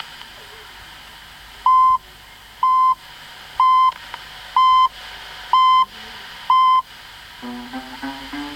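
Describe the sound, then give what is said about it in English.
A radio time signal of six short, evenly spaced electronic pips, one per second, marking 2 o'clock on the NBC national service, steady and clear, with faint background noise, followed by a soft tonal sound rising at the end. “The time is 2 o'clock.”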